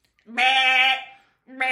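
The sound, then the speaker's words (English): A human voice imitates a sheep's bleat: one long, wavering, nasal baa held for over half a second, followed by the start of a second bleat, fairly loud. “So, you know, really what I think I can do good is a sheep and a cow.”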